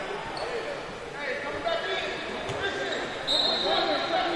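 A hand slaps a basketball amid gym noise, with sharp thumps popping out over a steady murmur of crowd chatter and squeaking activity in a large, echoing space.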